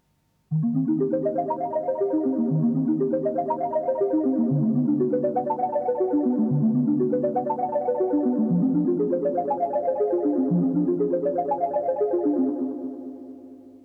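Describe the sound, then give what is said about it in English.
Hollow, pitched bottle tones from water slowly poured from a cider bottle, treated like a blown-bottle sound, repeating in sliding phrases about every two seconds, smeared by an added steady electronic echo that holds a continuous wash before fading out at the end. “This sounds a bit dry, so add some electronic echo.”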